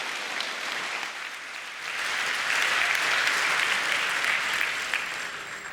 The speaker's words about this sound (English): Please give him a round of warm applause and have fun.